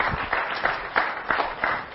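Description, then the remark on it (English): A church audience applauds God with steady, dense clapping, a broad crackling wash that swells in a loose rhythm of soft surges, with no voices rising above it. “Give Him a hand in Jesus' name.”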